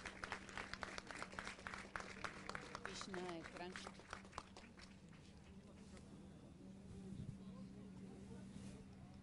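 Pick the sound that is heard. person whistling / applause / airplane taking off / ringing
applause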